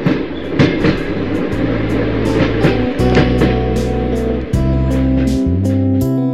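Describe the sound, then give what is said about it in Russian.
Train wheels clatter steadily over the rails, sharp clacks repeating about every half second above a loud, constant low rumble, as heard from inside a moving passenger carriage passing railway stations one after another. “Железнодорожные вокзалы за окном пролетали один за другим, внося изменения в пассажирский состав вагона.”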